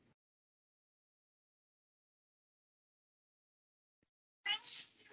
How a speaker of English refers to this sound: Sorry, my cat is meowing.